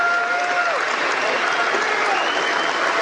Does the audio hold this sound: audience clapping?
yes